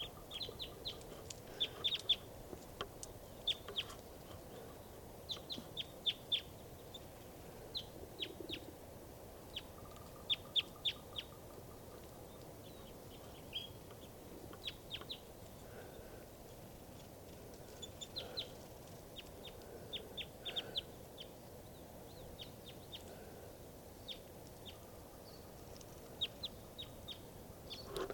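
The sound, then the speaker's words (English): Wild birds call repeatedly, a scatter of short, high chirps and clucking notes coming in irregular bursts over a steady low rumble, with no voices. “And that's also 387 calling in response.”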